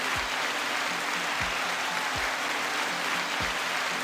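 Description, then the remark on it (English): A steady wash of applause fills the whole clip, dense and unbroken, with a few dull low thumps underneath. No one speaks. “Thank you for the applause, sir.”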